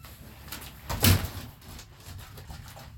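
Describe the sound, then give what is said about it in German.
A water bottle drops and hits the ground with a single loud, dull thud and a brief clattery rattle, then quiet background hiss returns. “Und da fliegt sie wieder, die Wasserflasche.”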